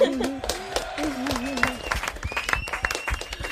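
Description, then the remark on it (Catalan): A group applauds with dense, steady clapping for a few seconds, while a voice rises and falls over the start of it before the clapping carries on alone. “Volve, un aplaudiment.”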